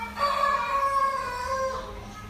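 rooster crowing at dawn

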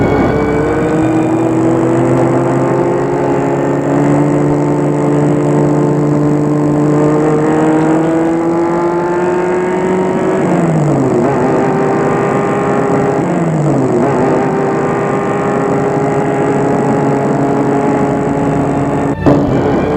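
car driving and accelerating

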